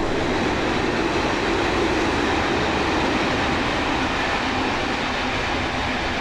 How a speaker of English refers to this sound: There goes the train.